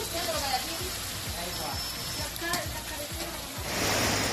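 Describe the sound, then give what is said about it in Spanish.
Heavy torrential rain pours down on city streets in Seville or Melilla, Spain, in the afternoon, in a dense, continuous hiss, swelling louder toward the end, with faint voices murmuring underneath. “Esta tarde así se escuchaba el agua caer en Sevilla y también en Melilla.”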